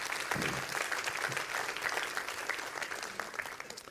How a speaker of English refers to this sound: Yeah, you clap for him.